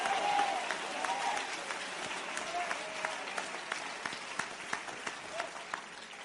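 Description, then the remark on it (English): A crowd applauds steadily for several seconds to give thanks, clapping their hands for about five seconds, a dense wash of many hands clapping at once, with individual sharper claps popping out near the end as it thins slightly. “Stop being proud and clap your hands for 5 seconds and thank him for something.”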